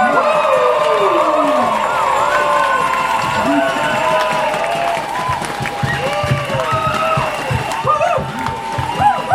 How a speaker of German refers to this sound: Und deshalb möchte ich alle nochmal bitten, alle Bäuerinnen und Bauern, die auf der Bühne waren, die mitdemonstriert haben, mit einem ganz, ganz großen Applaus zu verabschieden. Ja! Danke!